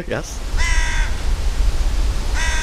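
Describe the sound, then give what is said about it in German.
Two harsh, raspy carrion crow caws ring out a couple of seconds apart over a steady low rumble of traffic, with a brief bit of voice-like sound at the very start. “Was ich bei den Rabenkrähen außerdem beobachte, in der Stadt singen sie mehr.”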